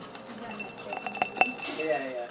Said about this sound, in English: And now everyone's gonna shake their plates. And they're gonna shake the beads around on the plate, and the beads are going to track bacteria all over the plate and coat the surface.